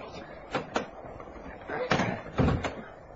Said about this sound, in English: Look, let me in. Please, I'm wet to the skin. I'm going to unlock the door, Dorothy.